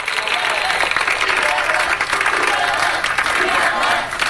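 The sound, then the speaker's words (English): Faculty and staff of Boston Latin School clap steadily and loudly while people cheer and whoop for their headmaster and assistant headmaster on the steps of the school, a dense, continuous wash of applause that holds at the same level throughout. “That is faculty and staff of Boston's Latin School cheering their headmaster and assistant headmaster”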